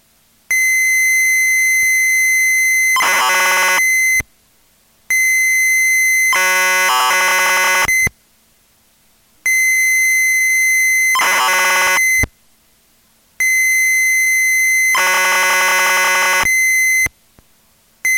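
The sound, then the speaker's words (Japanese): Computer cassette data loading tones carrying the screen data for the Ping Pong 1 program, which is also used by Ping Pong 2 and is loaded in BG graphic mode: loud, steady shrill pitched tones broken by buzzing, warbling data bursts, with short silent gaps between four repeating blocks. No voices. “これからはピンポン1の画面データが入っています。BG グラフィックモードにしてロードしてください。”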